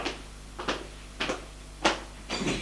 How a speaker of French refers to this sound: Elle ferme la porte.